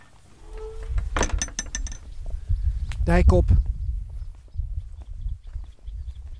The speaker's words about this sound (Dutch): Je hoort het geluid misschien van mijn rugzak, waar wat spullen in zitten. Een flesje water.